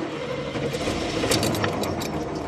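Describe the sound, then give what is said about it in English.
A car engine starts up and settles into a steady rumble, with a light metallic jingle like keys rattling over it partway through. No one speaks. “Starts up like a champ.”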